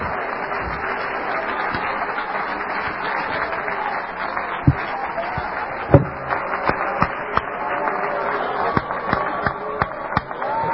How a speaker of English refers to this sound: Oh, clap your hands to Him.